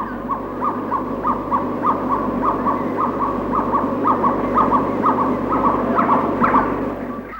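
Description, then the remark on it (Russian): A gibbon calls in a steady, rapid series of hooting notes, about two per second, rising slightly in intensity, over a dense, constant wash of buzzing jungle background noise, recorded on a tape recorder in the jungles of South Vietnam. “Это особая удача. Крик гиббона.”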